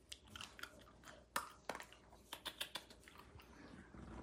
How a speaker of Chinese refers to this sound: 瞧这狗，哎，吃。